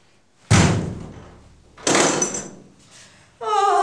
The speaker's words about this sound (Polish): No chodź, wywalaj te drzwi! Co stoisz? Wywalaj!